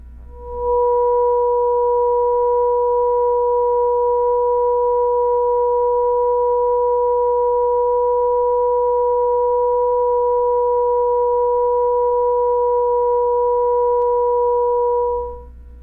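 Two steady pure sine tones sound together an octave apart, slightly out of tune so they waver with a slow, gentle beating. The pair holds unbroken for about fifteen seconds.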